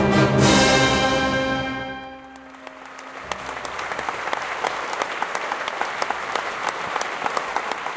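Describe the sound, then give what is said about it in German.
At the end of a concert at the Festspielhaus St. Pölten, a final sustained orchestral chord rings out and fades, then the concert audience breaks into steady, dense applause with many sharp individual claps that continues to the end. “Das Konzert ist zu Ende, das Publikum spendet Applaus und dann gehen Gäste und Orchester wieder getrennte Wege.”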